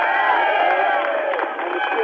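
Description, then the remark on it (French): A dense, loud crowd cheers continuously at the 1994 breakthrough of the Channel Tunnel linking England and France, a roar of many overlapping voices with shouts and bright whistles cutting through, sustained without pause from start to finish. “Des vivas, des sifflets, des cris, des larmes aussi.”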